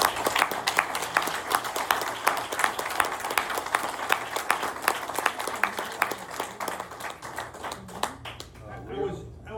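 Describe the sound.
An audience breaks into steady applause, a dense patter of many hands clapping for about eight seconds before it thins out and a voice starts to come through at the end.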